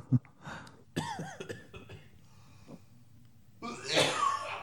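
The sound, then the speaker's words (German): Someone coughs and sputters close to the microphone after inhaling a hair that was on it, in several harsh, uneven bursts, with a strained, throaty voiced stretch in between and a final loud, breathy cough at the end. “Vielleicht hust du auch nicht direkt ins Mikro, das wäre halt schön, weil ich nämlich dann auch deinen Husten 3D im Ohr habe.”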